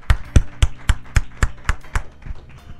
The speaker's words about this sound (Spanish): Le damos un aplauso al Señor en esta mañana. Gloria a Dios.